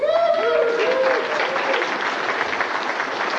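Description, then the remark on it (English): A crowd applauds steadily to welcome an act called America's Seven, a dense continuous patter of many hands clapping, with a brief musical tone or whistle rising at the start before the clapping carries on alone. “So let's give it up.”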